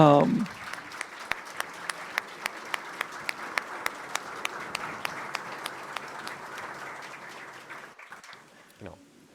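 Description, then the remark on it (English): An audience at a Chaos event applauds steadily for about eight seconds, a dense patter of claps with some sharp, evenly spaced claps standing out, before it fades away. A brief voice is heard at the very start. “I would give you applause, but would sound really sad if I was the only one doing it.”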